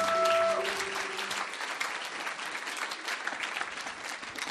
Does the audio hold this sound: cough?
no